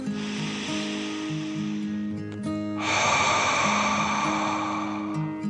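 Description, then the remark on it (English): A person takes a long, deep breath, a softer airy inhale followed by a louder, rushing exhale lasting a couple of seconds, over a soft, steady musical drone. “The dragon quickly hopped out and took a deep dragon breath in and out.”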